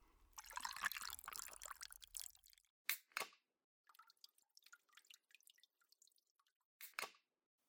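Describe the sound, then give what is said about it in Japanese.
Water sloshes and splashes for a couple of seconds as a bottle of soda is lifted from a bucket of ice water, then scattered drips patter down, a few louder drops among softer ones. “そこのおけ、氷水にサイダー使ってるっしょ。”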